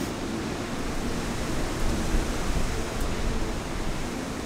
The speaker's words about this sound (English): And the wind, you can see the rain kind of coming across in sheets like it does in coastal storms.